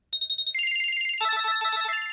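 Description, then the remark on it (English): A cell phone ringtone plays loud: a bright electronic melody of quick repeating beeping notes that steps through a few pitch patterns, with no one talking. “Most of them, though, probably don't sound much like something you'd want to listen to on the radio.”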